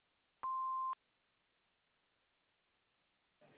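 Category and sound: signal or alarm, answering machine beep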